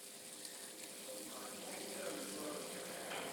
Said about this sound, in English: But first, feast your ears on the sound of sizzling bacon.